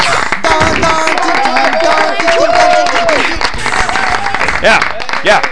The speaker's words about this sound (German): Aber bitte jetzt mal kurzen Applaus für die Top 10 der 48. Kalenderwoche.